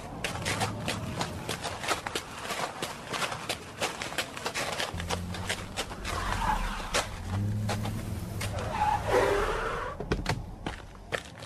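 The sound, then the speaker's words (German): Many cars from Rocky Beach drive up onto the beach, their engines building into a low rumble that swells over gravelly outdoor noise and crunching sounds, growing louder toward the end. “Da kommen Autos aus Rocky Beach in den Strand raufgefahren. Ziemlich viele Autos.”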